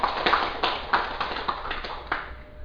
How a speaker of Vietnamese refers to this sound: Xin quý vị vỗ cho một tràng vỗ tay.